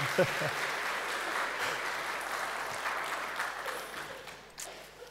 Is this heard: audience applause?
yes